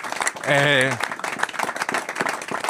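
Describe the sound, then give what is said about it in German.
A crowd applauds with dense, steady clapping, opened by a brief sustained vocal whoop or cheer that rises over the noise before the clapping carries on alone, applauding on behalf of everyone who volunteers and gets involved. “Und deswegen, ich denke an der Stelle mal für alle stellvertretend einen Applaus, ne, dass man sich da so...”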